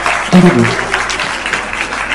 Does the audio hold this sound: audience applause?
yes